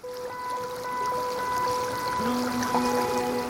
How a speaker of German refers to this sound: Da, wo die Isar unverbaut ist und eigentlich noch richtig wild wäre, wenn ihr nicht schon seit 100 Jahren Wasser abgenommen würde für die Stromerzeugung im Walchensee-Kraftwerk.